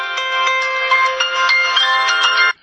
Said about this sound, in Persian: خب یه نظر وقفه ایجاد شد، گوشیم زنگ خورد و صحبت کردم، دقیقا نمیدونم کجا قطع شد حرفم، یعنی کدوم جمله.